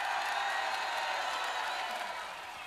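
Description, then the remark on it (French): A crowd bursts into sustained applause mixed with cheers for a man, a dense wash of clapping that holds steady for a few seconds before easing slightly toward the end. “Un tonnerre d'applaudissements pour ce monsieur qui sait quoi faire de sa main gauche, s'il vous plaît!”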